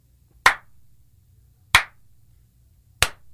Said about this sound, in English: The slow clap gets me every time.